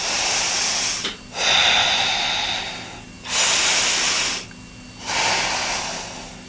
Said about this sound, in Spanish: La loba sigue cantando, y la criatura lobuna empieza a respirar.